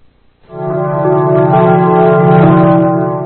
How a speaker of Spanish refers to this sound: Observen, inicia con campanas como de iglesia. Tratan de asociarlo con la religión.